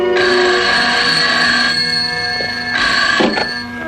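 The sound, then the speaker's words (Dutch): A telephone bell rings loudly in two bursts as a transatlantic telephone call comes through, a long ring followed by a pause and a shorter ring, bright and metallic with no voices. “Soon I couldn't stand it any longer, so I put in a transatlantic telephone call.”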